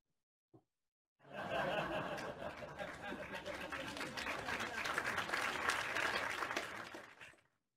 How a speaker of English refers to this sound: Clap, clap, clap.